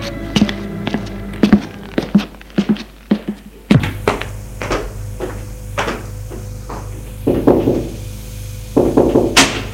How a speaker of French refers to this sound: Le lendemain, elle va frapper à la porte du bureau de son père.